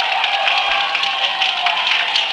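A large crowd cheers and claps in a steady, dense roar of voices and applause that holds at an even, fairly loud level throughout, with no individual speech standing out, as the king and queen arrive in Quebec and the king crosses the Plains of Abraham.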